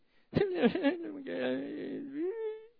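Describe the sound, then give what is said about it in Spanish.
A single voice imitates a son crying while trying to talk after being scolded by his mother, producing a wavering, whimpering blubber that runs unbroken for a couple of seconds with no intelligible words. “Y qué difícil, ya cada vez que lo regaño cuesta entenderle cuando le está pidiendo una explicación, pero esta vez estaba llorando, porque la mamá lo había regañado.”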